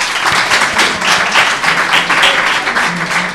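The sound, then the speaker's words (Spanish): An audience bursts into steady applause after a quiz answer is declared correct, many hands clapping together in a dense, crackling wash that holds at a fairly loud, even level for a few seconds with no one speaking. “Un aplauso.”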